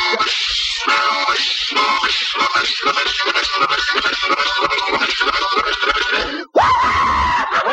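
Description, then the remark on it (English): A voice imitates a train roaring through a tunnel: a loud, harsh, continuous rasping rush with rhythmic chugging pulses, a brief cut-off near the end, then a strained, higher-pitched blast. “I'll tell you what, I'll do an imitation of a train going through a tunnel and a dog barking.”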